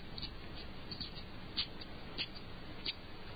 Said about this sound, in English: Ball bearings clicking.